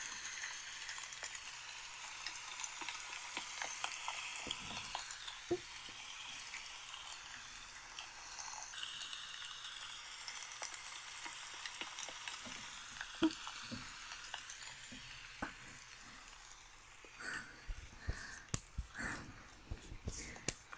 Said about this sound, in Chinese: 该死了，怎么下雨了？忘记带伞了。